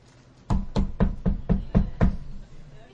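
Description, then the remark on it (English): Seven quick, evenly spaced knocks rap out in a steady rhythm, like knuckles on a door, each a solid, low thud with a sharp attack, with no voices over them. “Ding dong, right? Hello, right? Those kind of noises.”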